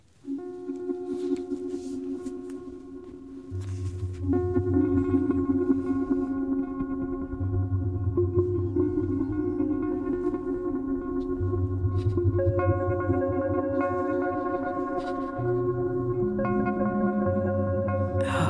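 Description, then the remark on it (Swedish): Eerie sonified electrical signals recorded from a spruce tree in Telemark, Norway: layered, sustained electronic tones hum steadily, with deep droning bursts swelling in and out beneath higher whining pitches, loud and continuous with no voices. “Det här är en inspelning av de elektriska signalerna i en gran i Telemark i Norge.”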